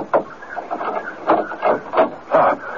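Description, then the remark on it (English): Knocking on a locked front door: about five dull, heavy raps land at uneven intervals over a steady low hum, with no one speaking. “knock just once more, please.”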